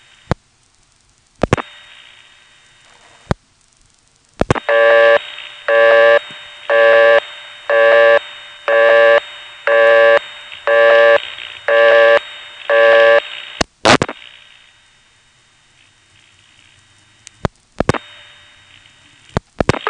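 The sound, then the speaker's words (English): A buzzy telephone ring tone pulses about ten times in a steady, quick rhythm over a constant hiss of carrier-system line noise that whooshes with each sound, with a few sharp clicks before and after. “The way it hisses along with the sound like that. I mean, the ring is just ringing, but then the carrier system's going whoosh, every time there's a sound.”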